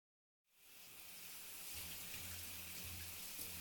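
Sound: shower water spraying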